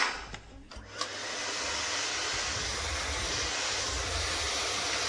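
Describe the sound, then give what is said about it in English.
A few knocks and clicks, then a vacuum cleaner, used to clean up a messy place, starts up and settles into a steady, loud whooshing roar that runs without a break. Nobody speaks. “Tim, you can have the vacuum cleaner.”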